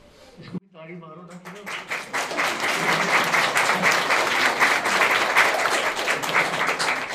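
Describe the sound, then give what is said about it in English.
A short sung or spoken note opens, then a large audience breaks into applause after a recited Sanskrit shloka to Lord Shiva. The applause swells quickly and keeps going, dense and steady, for several seconds to the end. “And then after my shloka, then you can clap for me.”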